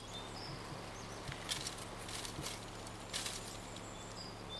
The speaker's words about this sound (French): Ça fait toujours le même bruit, moi j'entends le courant d'une rivière. Attendez, on refait pas de bruit pour voir ? C'est une rivière ? Ah oui, c'est une rivière.